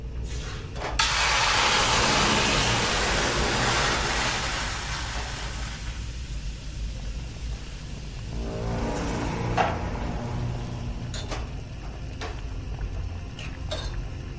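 A car trunk lid slams shut on a man inside the trunk with a sharp, solid thud near the start, as others get into the car, followed by a steady wash of engine noise and a few scattered knocks and clicks later on.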